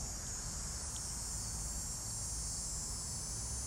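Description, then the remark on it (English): A steady, high-pitched cicada drone hums continuously from the trees in Montreal in mid-August, an unbroken insect buzz layered over a low outdoor rumble with no voices present. “Those cicadas.”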